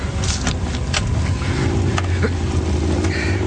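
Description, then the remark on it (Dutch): A car drives along at speed in pursuit, its engine a steady, loud low rumble, with occasional rattles and clicks from inside the vehicle. “Meneer, als het kan, ga naast hem rijden.”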